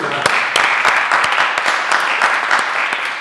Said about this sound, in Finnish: Ja tehän olette myöskin olleet erittäin aktiivisia, niin ansaitsette myös aplodit.